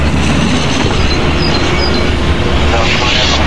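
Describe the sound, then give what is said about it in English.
A flight-simulator refueling effect, triggered by pressing Control-Shift-E to fill the plane up with fuel: a steady, loud rushing rumble with a hissy upper layer that holds constant for several seconds, with no talking over it. “And you heard that, it just filled up.”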